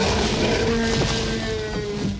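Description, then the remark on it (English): A loud, sustained dinosaur roar sound effect built from animal sounds such as dolphin screeches and koala mating calls: a deep rumbling bellow with a tonal, groaning edge that holds steady for about two seconds before trailing off slightly. No one speaks. “And all of these sounds come together to make that iconic roar.”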